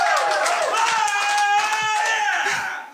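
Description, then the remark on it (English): Audience applause: a dense, steady wash of many hands clapping, mixed with some cheering voices, holding loud throughout before easing off at the very end. “Is that all I have to say to get applause?”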